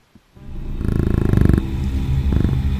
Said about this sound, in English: Yeah, it really shakes the controller good.